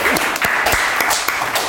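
Steady audience applause, a dense wash of many hands clapping at an even, fairly loud level throughout, with a few sharper individual claps standing out.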